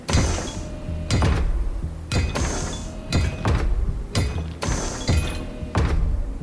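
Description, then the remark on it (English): Big mechanical doors slide open with a steady low grinding rumble, punctuated by loud, regular metallic clunks roughly once a second, prominent with no voices, as Arctic storm wind and snow come roaring in. “When the big mechanical doors slid open, the storm was the first inside.”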